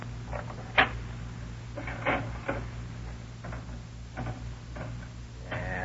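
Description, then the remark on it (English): Slot machine reels clicking in an irregular mechanical series of sharp ticks and clacks over a steady low hum, with no talking, as a man plays the slot machine in the back room of a bootlegging joint in Fresno. “He's out in the back room now playing the slot machine.”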